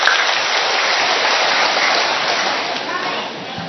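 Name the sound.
loud applause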